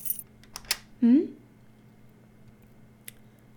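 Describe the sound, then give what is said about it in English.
A key turning to lock a door from the inside: a few quick, sharp metallic clicks, a brief rising squeak, then quiet with one faint click near the end. “Oh yes, of course the door is locked from the inside with a key.”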